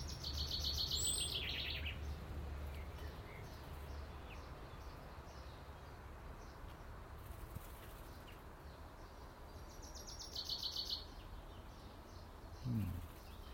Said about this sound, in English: She's blackbird's chasing an intruding cock blackbird while she's still got a beak full of food. Go on, go girl, go. Girl power.